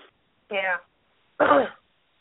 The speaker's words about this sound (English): And I don't mean to keep coughing. It's just... This air is, like, really drying out my throat. Mm. So I apologize to everybody.